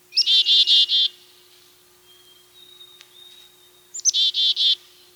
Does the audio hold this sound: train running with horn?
no